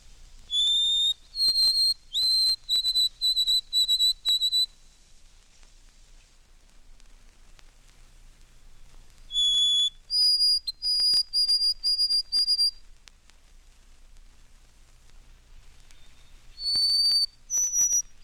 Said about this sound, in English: White-throated sparrow, 6 examples.